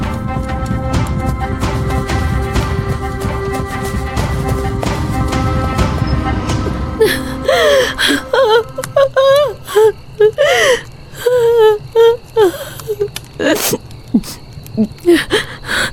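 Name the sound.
woman crying and whimpering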